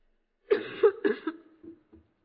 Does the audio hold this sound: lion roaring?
no